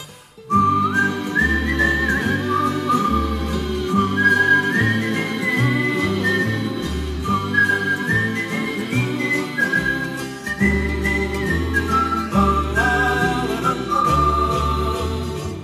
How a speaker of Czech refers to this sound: Strán končí vonící, si písničku někdo píská.